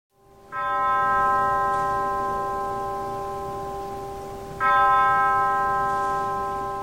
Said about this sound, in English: Bells tolled at the start of Congressman John Lewis's funeral today at Ebenezer Baptist Church in Atlanta.